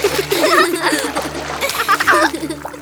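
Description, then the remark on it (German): Churned-up water splashing and sloshing in a steady wash with repeated louder bursts, under a low constant hum and faint background voices. “Wasser kann aufgewühlt sein und spritzen.”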